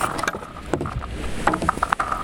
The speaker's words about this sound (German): Wie eine Reihe kleiner Explosionen klingt es, als die beiden ihre Kanus über das Eis zum offenen Wasser schieben.